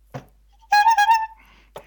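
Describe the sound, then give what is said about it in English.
A quiz contestant's individual buzzer sounds once, a bright, harmonically rich electronic tone lasting about half a second with a slight pulsing warble, bracketed by two brief dull knocks and no talking. “with their individual buzzers and give their answer”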